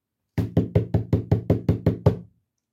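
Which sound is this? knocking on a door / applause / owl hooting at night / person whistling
knocking on a door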